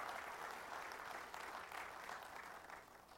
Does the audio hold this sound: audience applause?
yes